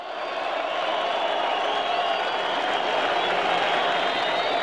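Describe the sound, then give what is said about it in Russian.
A large crowd applauds in a dense, continuous wash of clapping that stays steady and fairly loud for the whole stretch, with a faint murmur of voices mixed in. Archival recording from August 1991, during the dismantling of the Felix Dzerzhinsky monument on Lubyanka Square. “Вот эти аплодисменты, знаете на что?”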